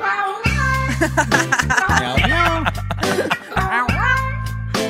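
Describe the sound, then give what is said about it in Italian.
A cat meows loudly, about three drawn-out, pitch-bending cries in a row, with a steady low droning tone running underneath. “E fa miau, miau, miau.”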